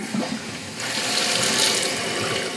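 Water rushes into a 1.6-gallon toilet water tank in a bathroom after the tank's bolts were tightened in a repair, a steady hissing flow that starts softer and swells louder after a moment, then keeps running evenly with no voices.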